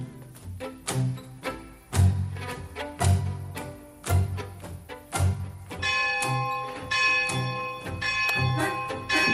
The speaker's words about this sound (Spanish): Las campanas de la parroquia de esta villa miseria llaman a misa